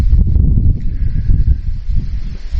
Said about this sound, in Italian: Mi sentite ancora nonostante il vento?